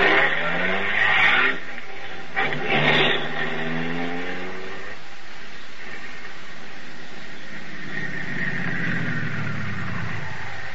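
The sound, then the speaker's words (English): A car engine revs hard with rising, whining pitch and a couple of rough bursts, then pulls away and speeds up again, loud with no voices. “Blast, another car coming.”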